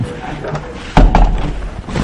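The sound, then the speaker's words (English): A door is pulled shut with a solid thud and a quick follow-up knock as it latches, over a steady backdrop of room noise and faint indistinct voices. “I'm just going to close this door because I can't hear myself think.”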